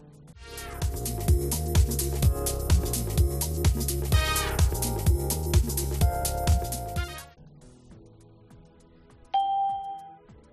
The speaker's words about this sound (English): She's listening to music.